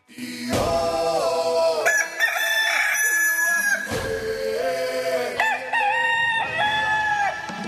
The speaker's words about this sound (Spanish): Súbanle, por favor, porque se viene otra vez el gallo de este miércoles. Súbele, por favor, mi querido Memo, para terminar de despertar a todos.